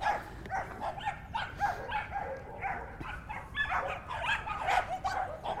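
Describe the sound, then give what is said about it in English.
Several dogs bark and yip at once in a dense, overlapping chorus that never lets up, with some higher whimpering mixed in. Nobody speaks. “I love dogs, but that is too many dogs, to be fair.”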